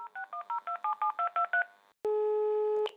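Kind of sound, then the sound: signal or alarm, telephone keypad dialing tones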